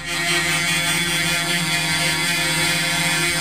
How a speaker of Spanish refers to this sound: Así están, a bocinazo limpio. Ya, lo que está escuchando recién, si se puso en sintonía recién ahora con la radio, es los bocinazos que están efectuando 1, 2, 3, 4, 5, 6, 7, 8, digamos más, ¿eh? Más camiones que han llegado hasta este lugar.